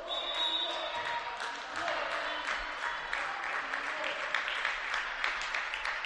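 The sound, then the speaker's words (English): A crowd applauds steadily after a timeout at a game in Hartsdale, New York, a dense, continuous patter of clapping at moderate volume with faint voices and murmur mixed in throughout. “And an appreciative hand from this crowd here.”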